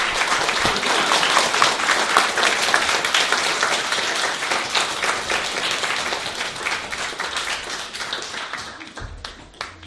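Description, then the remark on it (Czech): A church audience applauds three candidates as thanks, steadily for about ten seconds, dense overlapping claps at a fairly loud, even level that thins slightly toward the end, with no one talking over it. “Moc vás prosím, kdybyste mě teď ulehčili smíření s našimi třemi kandidáty tím, že jim dáme všichni pořádný potlesk jako díky za to, že tady”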